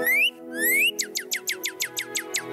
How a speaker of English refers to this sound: Hey there. Oh, that's a pretty little bird. Wait a minute. Ah, it's attacking me.